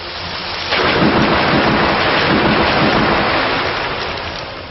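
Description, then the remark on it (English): A loud burst of rain and thunder erupts after a brief lull, a dense rushing roar sustained throughout with low rumbling underneath, heavy like a sudden storm effect; the video game sound effect of the move Storm Rush used by Urktana. “Urktana used Storm Rush.”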